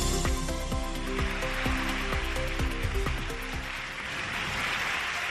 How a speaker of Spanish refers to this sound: Son los aplausos y los vivas a la Virgen de las personas que este mediodía se dan cita en la Basílica de la Macarena, en esa Eucaristía